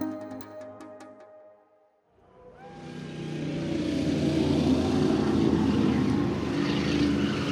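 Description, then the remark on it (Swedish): A brief tonal hum fades to near silence, then a loud, sustained roar of racing car engines swells in at the 24-hour race in Le Mans, France, on 11 June 1955, blending with dense cheering from over 250,000 spectators that stays steady. “Motorernas rytande överröstar det jublande publikhavet.”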